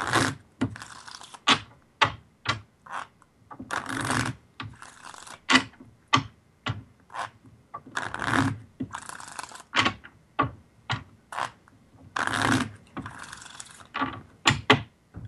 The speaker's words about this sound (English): So let's hear you shuffle those cards right here.